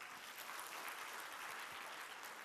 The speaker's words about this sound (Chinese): 我们给我们参与的再次一个掌声。